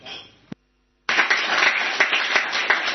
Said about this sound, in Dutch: En ik weet niet of het gepast is dat we inderdaad applaus geven, maar ik denk dat hij het wel verdiend heeft.